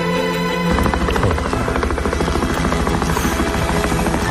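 A helicopter's rotor thumps in a fast, steady chop with a roaring engine whine, loud and close, filling the whole stretch without any voices.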